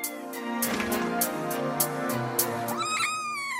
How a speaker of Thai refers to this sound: ลูกแมวน้อยเคียนูตัวนี้ส่งเสียงเมียวเมียวอยู่เป็นอันดับ3ครับ